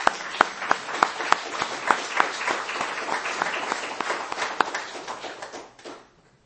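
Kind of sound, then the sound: crowd, audience applause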